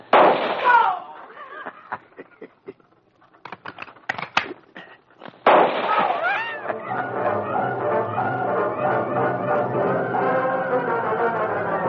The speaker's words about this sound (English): The Lone Ranger and Tonto were on the wagon trail when they heard the gunfire some distance ahead.